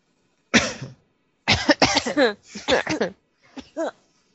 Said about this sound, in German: Ich habe seit 4 Wochen Husten.